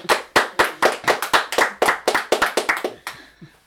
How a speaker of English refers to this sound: Now, you did hear clapping. You weren't imagining it